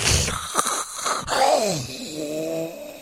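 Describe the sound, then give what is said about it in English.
A five-year-old boy with greatly enlarged tonsils snores heavily and with effort at night: rasping, noisy breaths that turn into a strained, wheezy groan with a wavering tone toward the end. No one speaks. “many parents out there can sympathize what it's like to have a son with ginormous tonsils. This is what his nightly sound would be like.”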